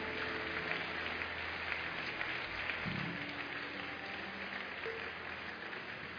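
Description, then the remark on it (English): A crowd applauds steadily throughout, dense overlapping clapping that blends into a continuous wash, even in loudness with no voices, honoring counselors as they leave. “Please keep clapping until they go.”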